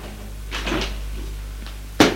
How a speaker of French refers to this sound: Elle dit, entrez. La porte qui s'ouvre.